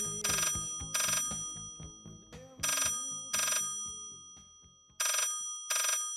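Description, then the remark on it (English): A telephone rings in the classic double-burst pattern for a 1983 call to an office chair supplier, three pairs of bright trilling rings separated by short pauses, fairly loud, with no one speaking. “So I rang our supplier of office chairs,”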